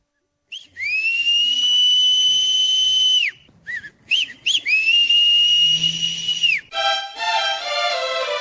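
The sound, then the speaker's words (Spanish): The whistle of a doughnut street vendor in Colotlán, who rides the streets on a bicycle selling doughnuts, blows loud in two long, steady shrill notes, each with a short chirpy flourish between, then a brief burst of rapid warbling tones at the end. “¿Te suena familiar este silbido? Si vives en Colotlán, de seguro sabes que ya viene el Señor de las Donas.”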